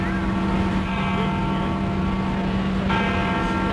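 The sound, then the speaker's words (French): The large, deep monumental bell of St. Peter's Basilica in the Vatican, Rome, tolls the hours on a cold January morning, its low hum and shimmering overtones ringing on steadily before another heavy stroke sounds near the end, with a faint background rumble underneath. “La cloche monumentale de la basilique Saint-Pierre égrène les heures en cette froide matinée de janvier.”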